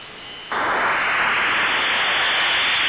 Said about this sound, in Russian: Заградительная помеха, белый гауссовский шум.